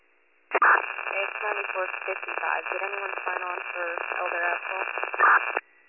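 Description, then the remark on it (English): A crackly county dispatch two-way radio transmission, thin and band-limited, with a garbled voice buried under static for about five seconds, louder bursts of noise at the start and end. “The radio is static.”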